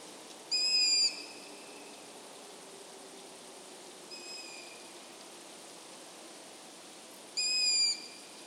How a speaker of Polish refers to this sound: Teraz o dwóch przedstawicielach sów, uszatce i puszczyku.